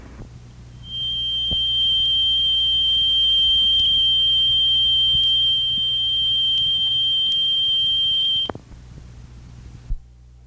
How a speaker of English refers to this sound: The next sound is that of a high-pitched whistle.